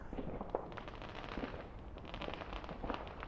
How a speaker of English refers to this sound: It's like a big flash of blinding light in my eyes. That is over in the direction of the park, I think. I think there might even be people setting off fireworks in the park. I don't even know if you're allowed to, but that won't stop people.